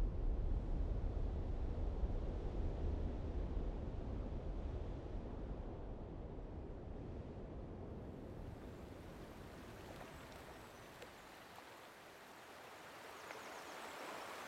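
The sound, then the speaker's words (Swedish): A steady, full rush of river water flowing between the mountains and the sea fills the scene, broad and continuous with a faint windy edge, easing slightly in loudness midway before swelling again. No voices are heard. “Vi arbetar vid floden mellan bergen och havet.”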